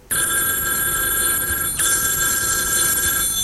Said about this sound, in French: le téléphone a sonné.